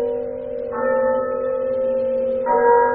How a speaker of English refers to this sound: he remembered, on a sudden, that he'd been warned of a visitation when the bell tolled one.